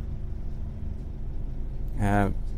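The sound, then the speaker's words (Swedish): A steady, low engine rumble fills the inside of a moving bus, with a brief burst of a voice near the end. “Alltså det som pågår i en annan del av världen samtidigt som jag sitter här och pratar på en buss.”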